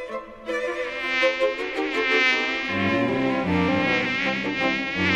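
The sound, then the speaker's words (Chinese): A dense, continuous whine of a swarm of mosquitoes buzzing around a man, steady and loud throughout, with shifting overlapping tones and no talking. “蚊子叮人咬人的功夫最厉害了，他们在王子的周围嗡嗡嗡嗡嗡嗡的叫着，用细细小小的尖刺猛力的扎着王子的脸跟手。”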